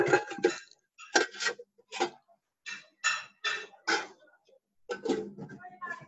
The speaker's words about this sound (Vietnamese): Tiếng son chảo đâu vậy? Ai đang nấu cơm?